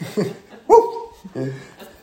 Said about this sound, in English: What am I hearing? It sounds like a little... Oh, it's my chair squeaking. Oh, okay. It sounds like some little squeaky toy or something.